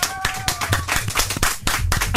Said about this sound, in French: Applaudissements.